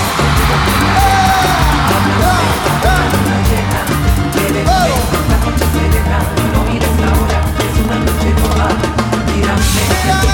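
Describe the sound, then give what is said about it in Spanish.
A concert crowd yells and shouts over loud, driving live music with heavy bass, the roar continuous for the full stretch. “Todo el mundo ahora que lo quiero ir gritando.”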